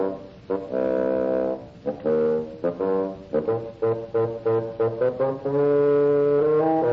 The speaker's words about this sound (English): Grandpapa is an old bassoon.